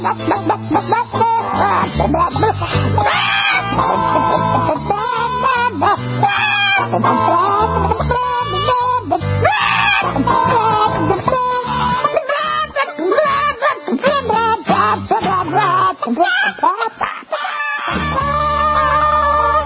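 A loud, bouncy novelty song about chickens plays throughout, with a voice singing along and imitating clucking and crowing over the steady music.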